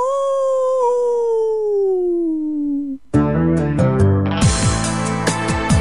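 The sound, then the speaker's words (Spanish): A single long wolf howl for a werewolf, loud, slowly sliding down in pitch for about three seconds before a burst of lively music abruptly takes over. “El hombre lobo. ¡Aú!”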